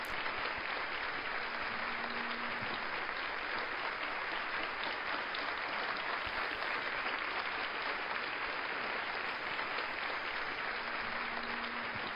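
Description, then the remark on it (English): Sustained, dense applause from an audience at a Church of God Ministry of Jesus Christ International evening service in Kendall, given for God, a steady wash of many hands clapping at an even loudness for about twelve seconds, with no voices standing out. “An applause for our glorious King.”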